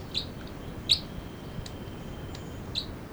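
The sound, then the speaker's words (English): Three short, high-pitched bird calls ring out at uneven intervals, the louder calls from the male bird numbered 305, with a few fainter chirps and chitters from bird 306 between them, all over a steady low background hiss. “I do believe the lead bird all along was in a louder, was 305, the male. The chitter by 306.”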